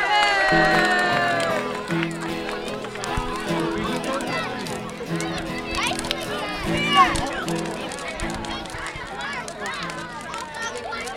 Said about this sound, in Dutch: Met een beetje hulp van een paar hele goede helpers. Applaus voor hun!